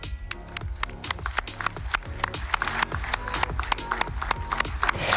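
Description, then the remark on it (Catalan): Scattered, uneven handclaps, a thin patter of applause that never swells into cheering, steady at a moderate level throughout, from about twenty heads of state at the official signing of Donald Trump's new Board of Peace for Gaza in Davos. “Bé, són uns aplaudiments. No hi ha gaire entusiasme en aquests aplaudiments.”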